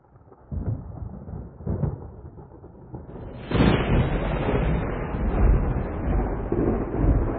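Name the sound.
thunderstorm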